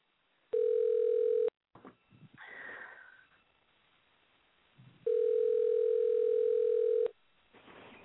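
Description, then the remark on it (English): Two long, steady ringback tones on an outgoing phone call placed during the radio show Making 8 to reach a late guest, a shorter one followed by a longer one, with soft breathing and faint rustling in the pauses between them. “We'll see if we can get it ringing here.”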